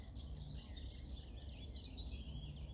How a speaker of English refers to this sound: You may listen to my voice, maybe you simply listen to the sound of the birds, the bird song that is all around, and let those sounds carry you into a place of stillness.